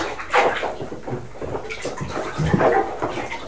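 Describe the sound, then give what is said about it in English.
A child splashes and sloshes water in a bathtub, with irregular bursts of splashing as they move around in it, fairly loud, with no talking. “Got a lot of water in there today, haven't you?”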